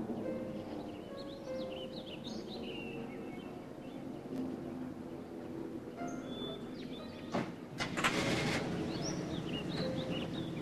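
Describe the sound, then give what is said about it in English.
An old car's engine rumbles steadily at low pitch as a gray-haired man backs it out in the morning and leaves, with birds chirping faintly overhead and a brief thunk near the end. “He backs the old car out and leaves.”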